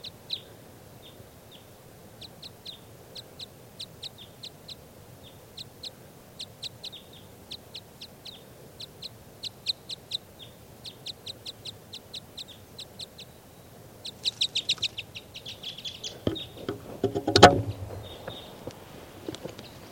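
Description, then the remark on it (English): A wild bird perched in a tree right above a truck, looking down at a net, calls repeatedly in quick, high-pitched chirping bursts, the phrases coming in steady rhythmic groups, with a brief louder rustling thump near the end. “According, the bird is perched in a tree right above the truck, looking down at the net.”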